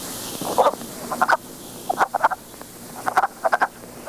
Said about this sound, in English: And one of the more notorious amphibian species is the wood frog. Their call sounds like a quacking duck. And here's a clip that I'll play for you so you can hear what it sounds like.